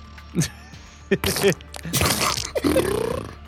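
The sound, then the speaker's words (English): Someone imitates farts with their mouth: a few short, sputtering raspberry-like bursts, followed by a longer, louder blown sound with a rising buzzy tone. “give me your best fart.”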